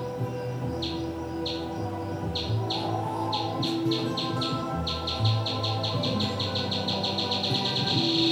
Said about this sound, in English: Old stone bridges are a favorite roost. The water bat chirps aren't exactly subtle. At 110 decibels, it makes more racket than a road drone. But like us, most of the insects it hunts can't hear ultrasound. As the bat homes in, its squeaks speed up.